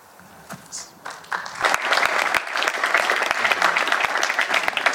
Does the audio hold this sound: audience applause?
yes